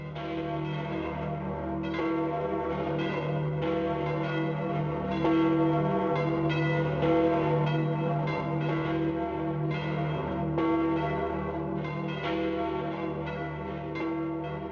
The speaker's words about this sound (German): Im Gedanken an den neuen Seligen läuteten die Kirchenglocken in ganz Vorarlberg und an seinem Todesort im Deutschen Halle an der Saale 15 Minuten lang.